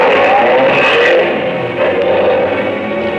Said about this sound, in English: I ran after him. He got into a car and roared away.